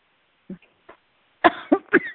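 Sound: coughing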